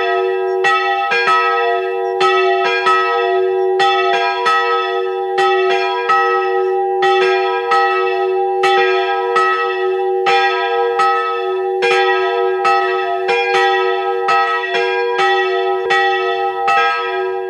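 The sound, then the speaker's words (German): The bells of the pilgrimage church in Hilkering, Upper Austria, peal continuously and loudly at noon, several bells striking in overlapping, steady rhythm with long ringing overtones, no voices present. “Sie hören die Glocken der Wallfahrtskirche Hilkering in Oberösterreich.”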